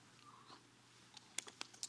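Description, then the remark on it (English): Faint papery rustles and soft flicks of bible pages being turned by a church audience finding Luke chapter 10, a handful of short crisp bursts clustered in the second half over a quiet room hum, with no talking. “I hear some pages turning.”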